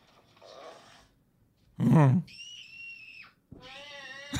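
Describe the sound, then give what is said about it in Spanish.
Someone imitates the cries of E.T., the film alien: a breathy rasp, a loud guttural burst, then a thin, high sustained squeal and a final wavering, whiny shriek. “A ver, va un gritillo de E.T., güey.”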